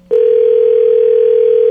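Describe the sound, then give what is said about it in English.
A telephone ringback tone sounds over a call connection while calling a burner phone left on a table in an establishment: one loud, steady electronic hum that starts abruptly and holds unbroken to the end, with no voices. “I do hear the rings on the connection.”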